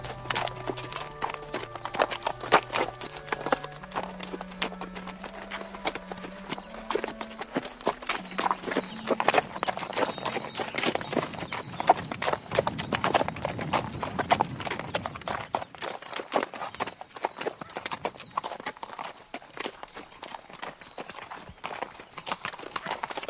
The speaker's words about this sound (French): Le cheval de ce dragon qui nous a dépassé tout à l'heure.